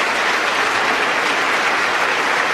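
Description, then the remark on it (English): Sustained, loud standing applause from a large crowd in a legislative chamber (the House), with members of both sides standing, after a speaker announces a bill in support of Israel; a dense continuous roar of many hands clapping with no pauses and no voices standing out. “Yeah, everybody is standing and clapping, yeah.”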